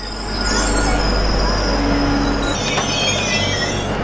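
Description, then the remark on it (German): High-pitched metallic squealing of train wheels on rails at Saint-Charles railway station in Marseille, France, sustained and loud over a steady low rumble of rolling railcars, with no one speaking. “Vom Bahnhof Saint-Charles ist es nicht weit zum Vieux-Port, dem alten Hafen von Marseille.”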